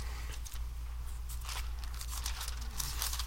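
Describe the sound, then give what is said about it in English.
Pages of a book being flipped to Acts chapter 1, a run of crisp papery rustles and swishes in quick irregular bursts over a steady low hum, with no talking. “We'll just flip over there.”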